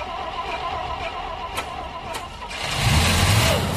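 A truck's big engine, missing its prop shaft, cranks with a couple of sharp clicks, then catches and roars louder, settling into a rough, steady running rumble.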